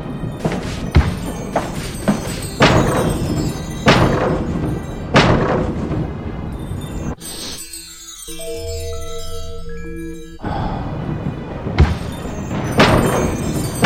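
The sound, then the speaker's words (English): Repeated heavy thuds as a player's character in a game runs into a door, loud, coming in an irregular series with a short tonal, game-like interlude in the middle before the bumping resumes. “I'm running into the door.”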